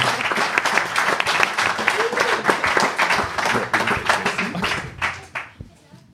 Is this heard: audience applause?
yes